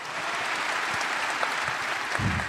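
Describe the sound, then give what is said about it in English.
A crowd claps steadily throughout, a dense, even wash of many hands at a constant level, with a low thump near the end and no voices standing out. “Oh, I want to just add something to that because we was talking backstage, and I really want to, give it up for that. Clap for that, y'all.”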